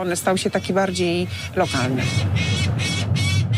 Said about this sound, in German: Um den Turm kreist ein Falke und schreit genervt. Er nistet über der Uhr an der Turmspitze und hat gerade Junge.